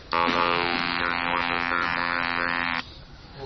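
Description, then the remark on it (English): A steady buzz from a handheld electrolarynx drones for nearly three seconds, a loud harmonic-rich tone at one fixed pitch with a slight wavering shimmer, then cuts off abruptly, leaving faint background noise. “So all I was doing was putting a harmonic-rich buzz into my vocal tract, slightly better than me flicking it like I was last week, and then shaping the sound using the oral cavity.”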